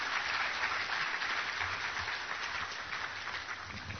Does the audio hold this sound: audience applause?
yes